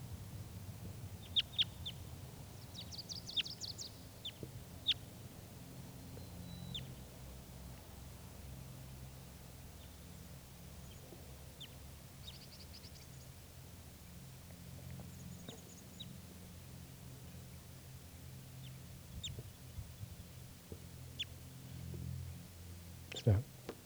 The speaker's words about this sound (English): One of the birds came back, and this, I think, a female. That's her.